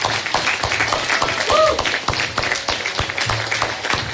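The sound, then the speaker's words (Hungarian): A crowd in Szalók applauds the Szalók band steadily, a dense wash of many hands clapping at an even, fairly loud level throughout, with a brief whistle-like tone rising briefly over the noise. “Egy nagy tapsot nektek.”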